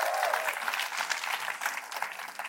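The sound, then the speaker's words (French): A small group of eight people claps steadily for a couple of seconds, a dense patter of overlapping hand claps at moderate volume with no voices. “Toute l'équipe de communicateurs qui s'est joint à moi, il y a 8 personnes qui ont été bénies, qui applaudissent en ce moment, les 1000 autres, pas sûr.”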